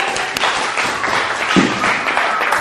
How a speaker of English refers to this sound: Round of applause